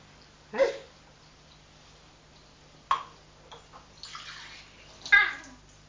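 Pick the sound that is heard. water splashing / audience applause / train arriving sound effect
water splashing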